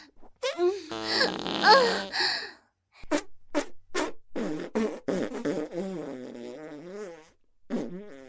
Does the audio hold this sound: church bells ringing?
no